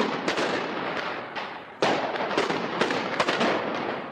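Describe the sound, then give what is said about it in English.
Israeli troops fire tear gas, rubber bullets and live ammunition at demonstrators along the Israeli border with the Gaza Strip. The gunfire and tear gas launchers pop and bang repeatedly at irregular intervals, sharp cracks rising over a constant, loud roar of crowd noise, with one heavier burst near the middle. “Soldiers fired tear gas and rubber bullets to disperse the crowds, and snipers used live ammunition to prevent a breach of the border fence.”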